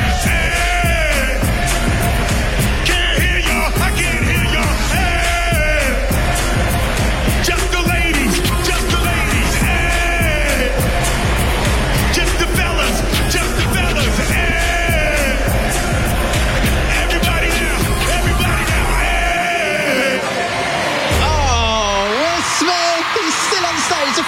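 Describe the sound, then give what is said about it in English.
A huge concert crowd at the Capital Summertime Ball cheers and screams in a loud, unbroken roar, with shrill yells rising above the din; near the end the low rumble drops away as a single voice carries on. “Vibrating right now, the crowd is so loud.”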